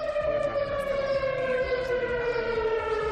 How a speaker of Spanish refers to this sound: Fue todo un simulacro que se puso en marcha para poner a prueba los sistemas de alerta por riesgo químico. El objetivo esta vez era evaluar el funcionamiento de las sirenas dentro del plan de emergencia de esta localidad.